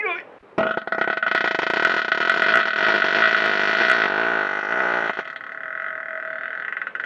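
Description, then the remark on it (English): A long, loud, buzzing fart, pushed out as the person presses on their stomach, holds a steady, reedy pitch for about four and a half seconds, then tapers into a quieter, rougher trailing hiss. “Still more doo-doo trapped in there, so that's not going to make the gas come out full stream.”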